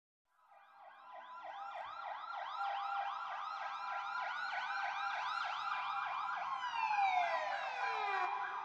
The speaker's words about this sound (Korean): 밖에서 온갖 사이렌 소리가 한꺼번에 울리고 있다. 얽히고 설킨 요란하고 적대적인 하모니에 도무지 잠을 잘 수가 없다.